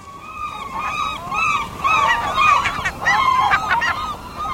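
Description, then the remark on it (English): Gulls call loudly and repeatedly, several birds overlapping in a steady chorus of harsh, bugling cries that continues throughout, with no talking. “The loud bugling call of gulls is unmistakable.”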